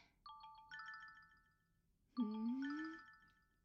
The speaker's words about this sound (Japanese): ってあれ、君のスマホが鳴ってる。